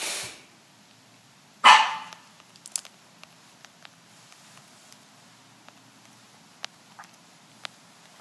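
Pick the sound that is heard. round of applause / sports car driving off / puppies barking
puppies barking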